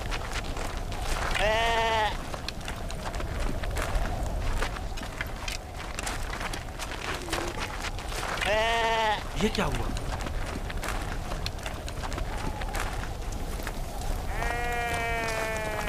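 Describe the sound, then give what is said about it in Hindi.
Sheep bleat loudly in panic three times at spaced intervals during a wolf attack, each cry wavering and strained, over a steady rushing background, while a voice speaks briefly in between. “भेड़ियों ने हमला किया और भेड़ों को चीर फाड़ डाला।”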